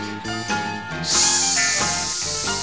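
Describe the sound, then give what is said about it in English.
Several voices, children among them, join in a loud, sustained hissing "sss" sound, making the letter S sound like a snake's hiss over a bouncy musical backing. “Now, come on, all you children, and make that S sound with me.”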